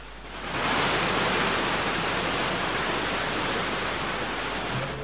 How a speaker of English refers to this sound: Anne strolls through a grassy glade to the waterfall. She's soon drenched by the spray.